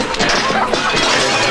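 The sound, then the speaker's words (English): A rock thrown at the window of a shed smashes through it: a loud, harsh crash of breaking glass, followed by a dense, noisy spill of shattering fragments that fills the whole short clip without letting up. “Will glances around, then throws a rock at the window of a shed.”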